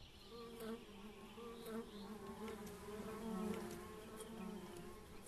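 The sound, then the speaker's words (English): A bumblebee buzzes steadily, its low droning hum wavering slightly in pitch as it hovers, with faint outdoor ambience and occasional soft clicks behind it. “There's about 20 species of bumblebee in Ireland.”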